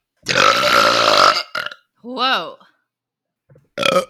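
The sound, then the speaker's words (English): A long, loud, rumbling burp as part of a drinking game, then a short grunt-like burst, a brief wavering vocal sound, and one more short burp-like burst at the end. “By the way, I don't know if I'm going to keep this in or not, but the drinking game is burping.”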